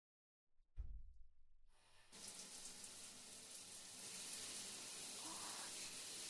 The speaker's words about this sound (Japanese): 湯船に入る前に軽く体をお流ししますので、こちらにお座りください。ではシャワーで流していきますね。